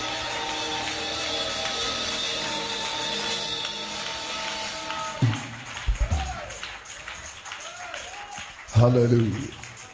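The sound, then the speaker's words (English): An audience claps in a steady, dense wash of sound mixed with sustained tones, fading after several seconds as a man's voice speaks in short bursts. “Are you clapping? Give him glory.”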